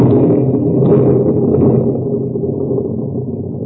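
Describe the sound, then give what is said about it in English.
A loud, deep nitroglycerin explosion, set off by Hassan's bullet, bursts in at once and rolls on as a heavy low rumble, slowly fading over several seconds with no voices. “Hassan's bullet took care of that nitro.”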